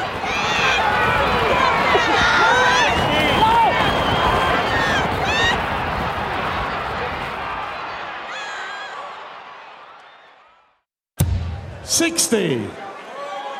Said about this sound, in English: Horse racing fans, they get really crazy when they're cheering. Those people that are yelling, come on, come on! They're like screaming at the top of their lungs and yelling.